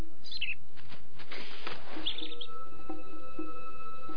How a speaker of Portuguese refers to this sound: Aquele pássaro fez... Psst, ouviram?